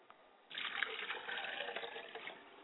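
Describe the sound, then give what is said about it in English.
Water pours from a glass in a steady splashing stream for about two seconds after a brief quiet start, fairly loud, then tapers slightly toward the end; it is poured as a libation for the father and the mother's side of the family. “I pour a glass of water for my father and for my mother's side of the family, and I say Ashe.”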